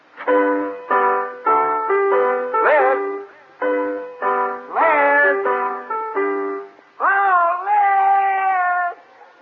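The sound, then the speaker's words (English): Loud, wavering off-key singing wails along with someone practicing an instrument, which plays a halting run of sustained notes, the voice sliding and warbling between pitches in short bursts. “Don't sing when I'm playing.”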